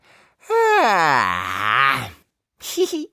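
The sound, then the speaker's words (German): A long, loud yawn, rising in pitch then sliding down into a drawn-out groan over about two seconds, followed by a brief vocal murmur. “hat ganz weiße Zähne, die siehst du, wenn ich laut gähne.”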